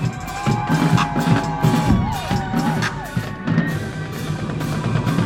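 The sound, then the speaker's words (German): A large crowd in Görlitzer Park, Berlin, cheers and whoops in a steady, loud roar after a marching drum performance, with a warbling whistle cutting through midway and a dense wash of voices throughout. “Die Trommler der …, …, ließen Schlegel und Drumsticks tanzen und zogen das Tempo immer weiter an, bis das Publikum jubelte.”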